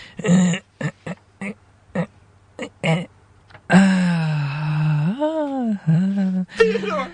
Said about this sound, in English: Are you sure he's alive? Is he still breathing? I can hear his breathing from here.